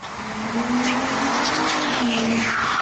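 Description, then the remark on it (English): A car speeds with tires screeching toward a man walking on Woodridge Square Drive, a sustained high squeal riding over a steady engine drone for about three seconds, loud. “He turns around at the sound of a screeching car speeding right into him.”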